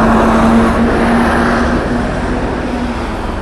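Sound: large bus passing by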